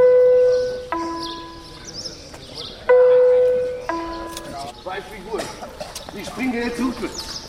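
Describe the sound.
A loud two-tone gong chime rings out twice in a prison at 7:25 to signal the start of work, each high then low note decaying slowly, followed by a busy murmur of indistinct voices and movement as inmates stream out to their workplaces.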